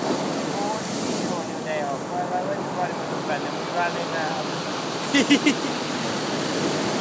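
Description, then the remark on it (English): A steady, broad wash of sea waves breaking on the shore fills the whole clip, with faint voices drifting underneath and a short burst of three sharp sounds near the end. “I don't think you can skim on waves right there.”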